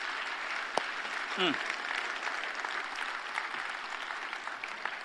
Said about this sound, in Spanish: Si Dios te habló, dé un aplauso al Señor, que Él se lo merece. Amén.